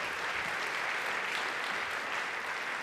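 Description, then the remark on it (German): Steady applause from an audience welcoming a speaker before a talk fills the whole moment, a dense wash of many hands clapping at once, even in loudness with no voices standing out. “Nochmal einen Applaus und herzlich willkommen.”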